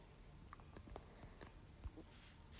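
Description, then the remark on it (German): Squelchy footsteps cross a muddy wooden walkway in a food storage room at an unhurried walking pace, each step a soft wet thud, fairly quiet, with no talking. “Im Lebensmittellager habe ich jetzt so, ja, Matschstege sind es, glaube ich. Die machen zwar ein voll ekliges Geräusch, wenn man drüber läuft, aber ups.”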